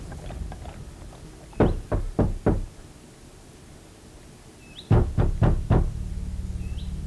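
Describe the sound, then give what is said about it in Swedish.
Two bursts of four firm knocks on a wooden door, evenly spaced and separated by a pause of a few seconds, late one evening on 6 October 1849. Faint background ambience, no voices. “En sen kväll den 6 oktober 1849 knackade på Erik Martinssons och Eva-Stina Andersdotters dörr.”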